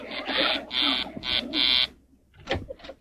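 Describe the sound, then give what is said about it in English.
A door buzzer, rung by Mr. Dabney delivering a meat order, sounds in four harsh, loud electric bursts, the third one short, in an uneven pattern. Quieter brief rustling noises follow once the buzzing stops. “Oh, that's Mr. Dabney. I know his buzz.”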